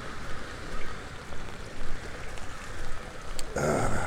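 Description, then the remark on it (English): Light drizzle falls on an umbrella as someone walks down 11th Street in the Pearl District of Portland, Oregon, at 38°F, a dense, continuous patter and hiss that holds an even level throughout, with a brighter, fuller burst of noise in the final half second. “I've learned that it's raining. If I create a very small profile under my umbrella, I can keep most of my body out from getting soaked.”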